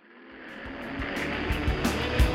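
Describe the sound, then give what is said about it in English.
Formula One race car engines rev at the starting line of the 2008 Singapore night race at Marina Bay, the first ever on a street circuit, a dense, rising roar that swells steadily louder, with sharp low bursts of throttle punching through. No one speaks. “The cars are at the starting line of this night race, the first ever in a street circuit, straining at the leash to blast off.”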